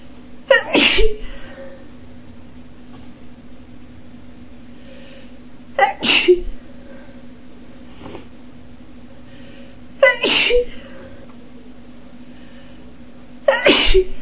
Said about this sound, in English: Oh, that was wet. More sneeze spray. I think I'll turn my head to the side.